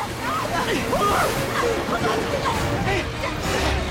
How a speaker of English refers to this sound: The giant faucet continues spewing more and more water into the tank.